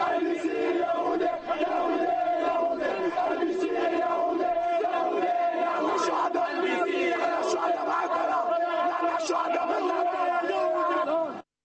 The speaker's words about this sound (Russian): После событий в Кане в Бейруте прошла массовая манифестация протеста перед зданием миссии ООН. Демонстранты обвиняли ООН и международные гуманитарные организации в бездействии и требовали добиться прекращения огня.